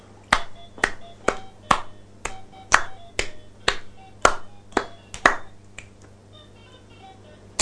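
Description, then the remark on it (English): Hands clap in a steady, even rhythm, about two sharp claps per second, a dozen or so in a row before they stop and the sound falls quiet. “We're going to clap again.”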